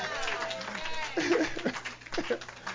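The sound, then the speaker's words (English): A crowd gives God a hand clap in a loose, scattered burst that swells partway through, mixed with murmuring voices and a steady low hum. “Give God a hand clap.”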